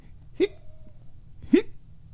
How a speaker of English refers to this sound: And my cat had the hiccups. I don't know if she was sleeping and had the hiccups. I mean, can you actually sleep while you have the hiccups? Yeah, but here's my cat in the middle of the night.